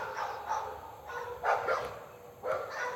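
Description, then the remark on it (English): Several dogs bark, a scattered series of yaps and bow-wows that come in short bursts with brief pauses, heard over faint outdoor background noise. “Cue the dogs. So plenty of dogs.”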